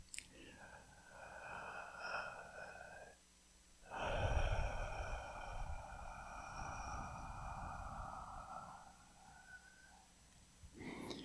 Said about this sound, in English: So we'll start as usual with our diaphragm breathing.